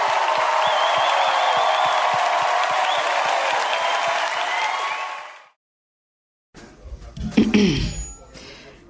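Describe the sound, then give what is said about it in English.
A live crowd applauds loudly with cheers and a few whistles, a dense steady wash of clapping that cuts off after about five seconds, followed by a brief silence and unrelated sounds. “You guys are amazing. Give it up for yourself.”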